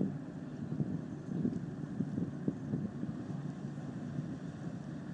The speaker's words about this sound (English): my time's almost ran out, and the boat's almost gone through here